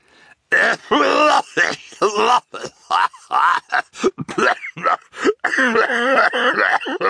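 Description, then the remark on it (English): A single voice performs a long fit of coughing for the character Mr. Poe, a banker in a tall top hat coughing into a white handkerchief: a rapid string of rough, voiced hacks and throaty groans, broken by short gasping pauses, loud and alone. “And the Baudelaires watched as a familiar shape stopped in front of them, took off a tall top hat, and coughed into a white handkerchief.”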